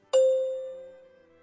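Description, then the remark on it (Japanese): A single clear chime, the cue to answer in a language question-answering drill, rings out with a bright struck attack, then a sustained pure tone that slowly fades away, heard alone with no talking. “のチャイムの後に、続けてうくむにで回答しましょう。”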